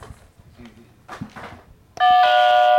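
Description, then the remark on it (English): A loud doorbell chime rings out suddenly after a stretch of quieter background voices and movement, its bright sustained tones ringing steadily until the end. “The dog would hide under the bed, but if we rang the doorbell, the dog would get so excited somebody was there, like no matter who it was, they'd get excited to come out”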